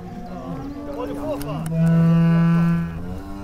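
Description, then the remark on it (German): Cows leave their winter barn for the pasture as the barn door opens on a farm in Brake, Oldenburger Land: one cow lets out a long, loud, drawn-out moo, with other cattle lowing more softly in the background beforehand. “Unser Niedersachsen-Korrespondent Alexander Budde hat den Ausgalopp der Kühe aus dem Winterstall beobachtet.”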